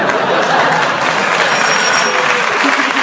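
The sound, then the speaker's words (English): An audience applauds steadily throughout, a dense, even wash of many hands clapping at a constant, fairly loud level with no clear gaps or individual claps standing out. “He's hesitated for applause, which I just saw my end to increase That's my right.”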